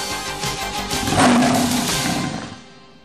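A single deep, rumbling big cat roar, loud, swells to a growling peak and then trails off, used as the station sound effect of radio station KHNC 1360 AM, the Roar of the Rockies. No voices accompany it.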